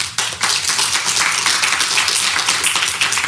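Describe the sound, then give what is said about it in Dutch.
Steady audience applause welcoming a guest, a dense wash of many hands clapping at once, loud and sustained for a few seconds with no voices over it. “Mag ik een applaus”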